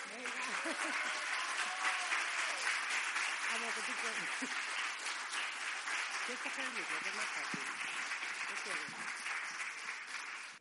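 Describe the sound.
An audience applauds steadily for about ten seconds for a young girl who is about to read aloud something she has written, a dense, even wash of clapping, with a few voices calling out and murmuring underneath.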